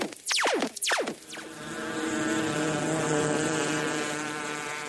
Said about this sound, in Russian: Так, заведем моторчик и полетаем.